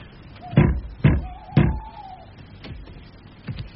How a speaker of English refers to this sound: Knock at the door.